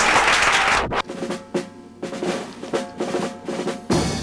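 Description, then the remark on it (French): A burst of loud audience applause on the television show "Gagnez 1 million" opens, then gives way to upbeat music with steady percussive hits before the clapping surges back at the end. “On l'applaudit.”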